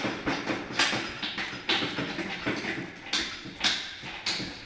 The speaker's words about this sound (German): Doch das Herz arbeitet noch und reflexartig zappelt das Tier mit den Beinen.